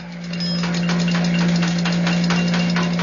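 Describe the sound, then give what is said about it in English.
A vehicle's engine runs steadily with a low, constant hum as it pulls up, overlaid by a fast, regular mechanical clatter from some part of the vehicle other than the brakes that pulses throughout. No one speaks. “Must be some other part of the mechanical contrivance of the vehicle.”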